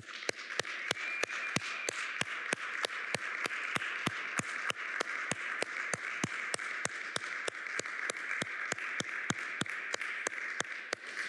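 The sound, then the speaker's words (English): A small group of six people applauds healthcare workers one morning for about eleven seconds, with one set of sharp, evenly timed claps standing out over a steady patter of other clapping. No one speaks. “So, as a token of the six of us here this morning, we just want to applaud you.”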